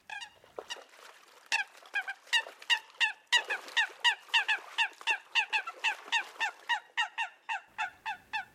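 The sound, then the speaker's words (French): A Eurasian coot gives a rapid series of sharp, explosive calls, about two dozen clipped notes in quick, even succession, loud with no other sounds. “Cette espèce émet de nombreux cris spécifiques explosifs que déploie le mâle lors des combats ou la série rapide qu'émet la femelle.”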